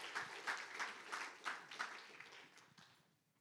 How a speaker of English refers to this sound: If you'll give him a round of applause as he makes his way to the stage.